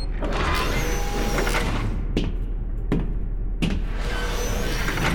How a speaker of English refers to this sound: Punching my security code into the pad, I unlocked the hatch.